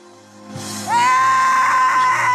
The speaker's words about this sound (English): She's got her son screaming in the background.